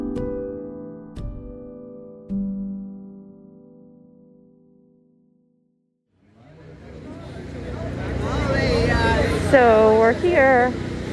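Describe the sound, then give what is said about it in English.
A generator runs with a steady, low mechanical hum and droning, engine-like buzz for several seconds, then fades to silence before a noisy crowd of voices and rising, wavering tones takes over. “There's a generator going, not sure why.”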